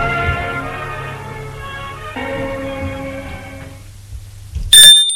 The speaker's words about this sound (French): On a entendu la sonnette du portail.